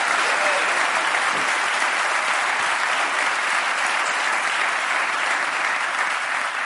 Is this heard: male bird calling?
no